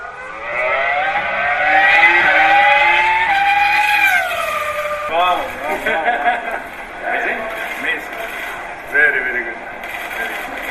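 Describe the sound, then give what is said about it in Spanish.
The Formula 1 race car driven by Alonso screams at high pitch, holding a loud rising whine for several seconds before breaking into quick revving bursts and gear changes. “Mañana va a apretar a fondo y al bajarse del coche, este es el sonido tan bonito y lo que decía Alonso al bajarse del coche.”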